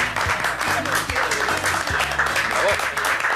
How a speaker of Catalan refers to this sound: Tenemos una otra costumbre, que es un aplauso para el asador. Hombre, que no falte. Hombre, un aplaudimiento.